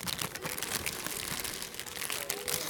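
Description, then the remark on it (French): Continuous crinkling of a bag of potato chips, a dense crackly rustle that keeps going for a few seconds with no pauses and no voices. “Petite note personnelle, ne pas emmener du chips pour écouter le brame du cerf. Parce que t'entends pas quand tu prends les chips.”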